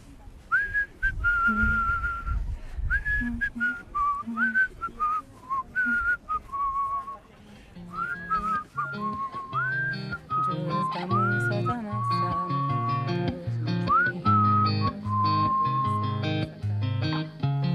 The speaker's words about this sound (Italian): Com'è che fa, fischietta?